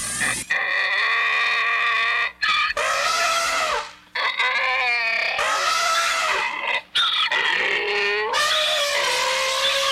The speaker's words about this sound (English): We now present the presidential debate, interpreted and performed by an elephant and a donkey.